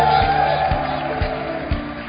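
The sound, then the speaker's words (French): A large crowd of entrepreneurs cheers and applauds loudly for themselves at the Maison de l'entrepreneuriat et de l'innovation in Kinshasa, a dense, continuous roar with a steady low thump pulsing about twice a second underneath. “Merci d'applaudir très très très fort pour vous-même, chers entrepreneurs. Est-ce qu'on peut faire le maximum de bruit?”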